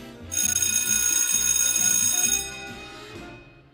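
A bright electric bell rings continuously for about two seconds, loud, then stops abruptly and its tone fades out, with no voices present.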